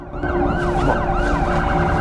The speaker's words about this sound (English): As sirens grow louder, the others scarper